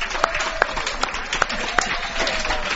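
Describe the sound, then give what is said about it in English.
An audience at an annual luncheon at Sardi's applauds in a steady wash of clapping, with a handful of sharper individual claps popping out above the dense patter before it carries on evenly. “Those regular listeners of ours who are wondering where all of those applause are coming from, they're coming from the audience here at Sardi's.”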